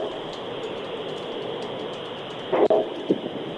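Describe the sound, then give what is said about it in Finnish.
A steady mechanical rumble of an oncoming train rolling past, heard during a steam locomotive trip, with faint rhythmic ticking on top and a couple of brief louder clanks near the end. “Täällä tulee juna vastaan parasta aikaa. Meni ohi, nyt taas odotellaan valojen vaihtumista.”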